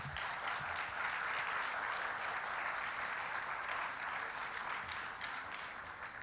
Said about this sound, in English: Let's welcome them with a nice applause.